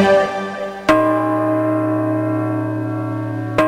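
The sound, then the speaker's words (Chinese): Deep church bells toll twice, about three seconds apart, each strike leaving a loud, rich, humming resonance that rings on between them. No voices are present. “教堂的钟声震醒了雷神父的美梦”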